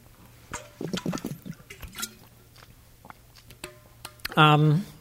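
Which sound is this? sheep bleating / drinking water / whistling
drinking water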